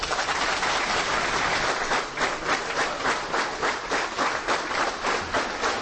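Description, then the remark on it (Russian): Long, sustained applause from a large crowd in an assembly hall, an ovation for Ramzan Kadyrov on his confirmation as President of the Chechen Republic: a dense wash of clapping with a steady, slightly pulsing rhythm and no voices over it. “Рамзан Кадыров после долгих оваций, сидевший до этого отдельно в углу и выглядевший смущенным, вышел к трибуне.”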